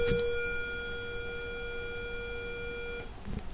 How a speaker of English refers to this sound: Sorry about that bell.